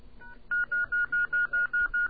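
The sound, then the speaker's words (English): A rapid series of about eight telephone keypad dialing tones, evenly spaced short beeps, clear over a faint background hiss, preceded by a softer brief tone, as someone dials their beeper number on a telephone. “I'm going to call my beeper number and see just how long this takes.”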